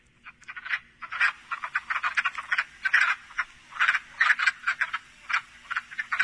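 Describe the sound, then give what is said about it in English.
A chorus of wood frogs, about three times the size of a peeper, gives rapid, clucking croaks much like ducks, many overlapping calls in quick irregular bursts, steady throughout with no talking. “little frog that we're going to start to hear any minute now are wood frogs, which sound like clucking ducks.”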